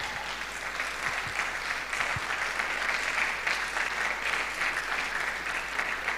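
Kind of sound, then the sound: crowd, audience clapping hands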